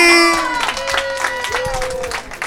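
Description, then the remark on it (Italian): A crowd on a radio show claps steadily to welcome Marcello Lippi, with dense overlapping applause and some higher tonal whoops or whistles rising above it throughout. “Abbiamo qui con noi oggi un bel applauso per Marcello Lippi!”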